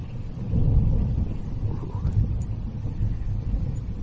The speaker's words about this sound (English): It's a long thunder.